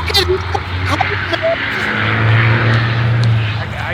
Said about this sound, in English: Other than a lot of background traffic noise.